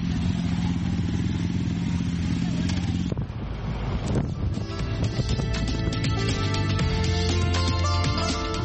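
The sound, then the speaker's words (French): A motorcycle engine runs loud throughout, its steady drone shifting briefly around the midpoint before settling back into a continuous rumble with rattly, clattering overtones. “Le principal argument, la moto, c'est la liberté.”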